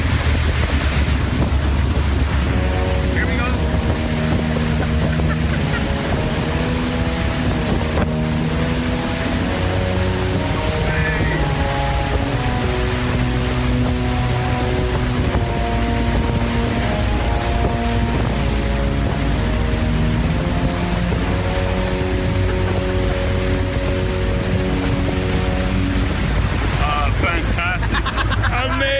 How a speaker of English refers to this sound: And this is me on the lifeboat as this massive ship. This is the Royal Princess coming into Cove. Have a listen. There she is. 4,500 people on board, and she's going to be in Cork until 6 o'clock this evening.